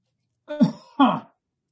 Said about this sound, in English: No, to clear my throat